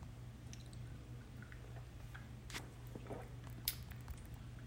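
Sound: sipping coffee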